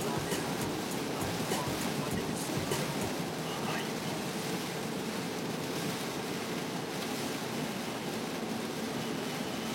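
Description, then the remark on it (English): Heavy rain pours down outdoors in a steady, dense roar of hiss and patter that stays loud and unbroken for the whole stretch. “It is fucking raining out here.”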